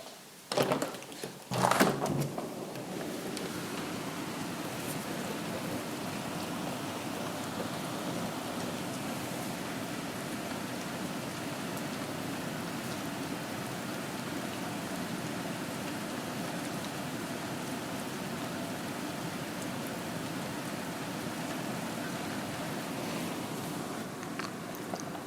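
Steady rain falls outdoors on a cold night, a continuous soft hiss with a few sharp knocks and thumps in the first couple of seconds before settling into an even, moderately quiet patter.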